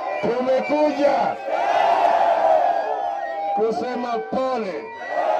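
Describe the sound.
A crowd of at least 1,000 supporters of Kenya's opposition leader cheers and shouts enthusiastically at a Sunday afternoon rally in Kenya, voices overlapping in a loud, continuous roar with rising whoops and chants throughout, energetic.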